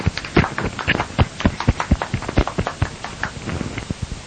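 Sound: applause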